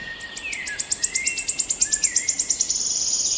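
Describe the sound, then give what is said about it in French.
A leaf warbler's high, thin song in a forest: a rapid series of short, sharp notes that speeds up into a shivering trill, clear over a faint, steady background hiss. “Par exemple, on va avoir disparition petit à petit de certains oiseaux insectivores dans les forêts comme les pouillots, pouillots siffleurs, pouillots de Bonelli.”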